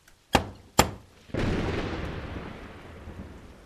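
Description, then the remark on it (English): In an Apple IIe game, two sharp, heavy knocks from a door knocker land about half a second apart, followed by a loud, sustained rumbling wash of noise that slowly fades. There is no answer, but the knocking makes the door crack open slightly. No one speaks. “There is no answer, but knocking causes the door to crack open just a little bit.”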